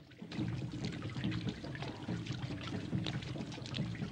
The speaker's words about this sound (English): The flaming torch she's holding illuminates the dank and dripping grotto they're passing through.